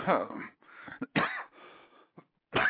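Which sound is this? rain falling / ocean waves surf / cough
cough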